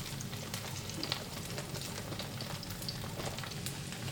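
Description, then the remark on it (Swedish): Steady, crackling sizzle as vegetarian barley mince is carefully poured into a hot pan, with dense popping spatter across the highs and a low rumbling undertone, constant in level with no voices. “Jag häller i försiktigt i kornen här, kornfärsen.”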